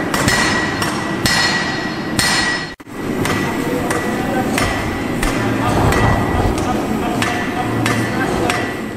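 A blacksmith hammers metal in a steady, repeated rhythm in a former railway locomotive workshop, each sharp clanging strike ringing out loudly against a constant workshop background, with a brief break partway through.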